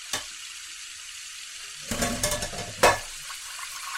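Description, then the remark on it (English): A malfunctioning kitchen sink in Fairplay, Colorado, runs with a steady hiss of water, broken by a sharp sputter near the start and a cluster of louder splashing, gurgling bursts toward the end. “Ugh, this is the second time this month the sink is acting up.”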